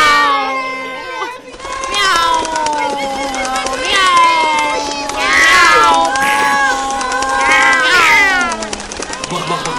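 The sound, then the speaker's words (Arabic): A cat meows loudly in long, drawn-out cries that rise and fall, one running into the next for nearly ten seconds, with a busy voice-like background underneath. “ساعدهم بسرعة، وإلا فسوف تفر من القطة.”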